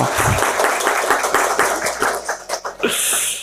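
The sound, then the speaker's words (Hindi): A group of people claps together after a ribbon is cut during a group activity, in a dense, steady burst of overlapping hand claps, loud and fairly even for about three seconds before tapering off, with a brief high tone at the end. “Final भाइयों की तरफ से जो हमारे लीडर है तो आप पूरी की पूरी रिबिन काट दो, तो बहनों के जितने बंधन थे सारे एक साथ खत्म, और फिर सब तालियां बजाएंगे अभी।”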